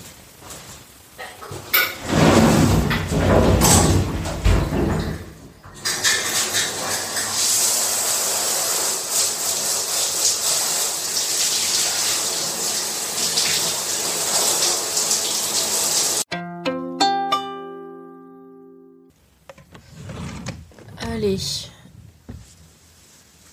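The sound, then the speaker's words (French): A shower runs with a steady, loud hiss of spraying water for several seconds, then cuts off into a brief tonal squeak, followed by some muffled voice sounds. “Pas le meilleur, mais l'un des meilleurs moments de la journée. La douche.”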